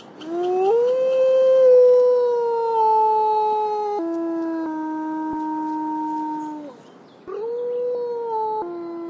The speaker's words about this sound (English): Sometimes the wolves would howl at night when we were sleeping, and they would kind of talk back and forth to each other, like, are you there? I'm here. How are things? Whatever they're saying, we have no idea.